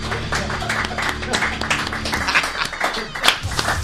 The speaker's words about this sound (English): This was Missed Apex Live. Polite round of applause.